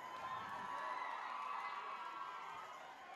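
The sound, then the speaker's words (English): A crowd cheers and shouts continuously, a dense wash of many voices whooping together at steady loudness, with no clear single speaker standing out. “Thank you, crowd right here. You're very kind and loving people.”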